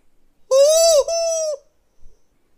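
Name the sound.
rooster crowing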